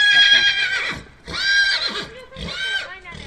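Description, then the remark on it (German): A horse whinnies loudly, three shrill, quavering neighs in quick succession, each rising and then trailing off, with brief pauses between them; a therapy horse with a boy on its back during a therapeutic riding session, slowly starting to walk. “Liebevoll streichelt der Junge Apis Mähne und freut sich offensichtlich, wenn das Pferd langsam losgeht.”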